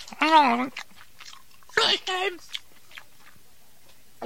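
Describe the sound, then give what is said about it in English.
Someone chews an apple, with a few crisp crunches after two short muffled vocal bursts that sound like talking through a full mouth, then faint chewing in near silence. “I'm sorry, let me take off the clothespin and finish your chewing, right?”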